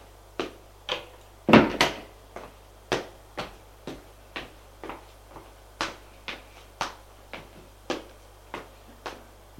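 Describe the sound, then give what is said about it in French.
A long series of sharp knocks on a door, struck at a steady, slightly uneven pace, with one heavier double bang early on and no voices. “Frappe à la porte.”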